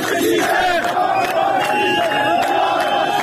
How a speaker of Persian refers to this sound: کارگران بهمن دیزل قزوین دست به اعتصاب زدند. اعتصابی همراه با شعارهای اعتراضی.